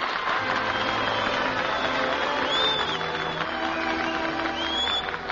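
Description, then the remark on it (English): A large audience applauds and cheers, a dense wash of clapping with a few whistles rising above it, steady and fairly loud throughout. “We give our applause where it is really deserved.”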